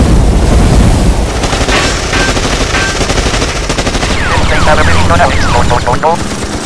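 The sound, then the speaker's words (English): Loud minigun fire: a fast, unbroken stream of rounds that keeps going for several seconds amid a heavy roar and sporadic shouting in the background. “ready the minigun.”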